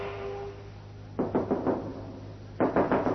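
Two quick bursts of loud knocking on a door, each a rapid run of four or five raps, separated by a short pause, over a low steady background hum.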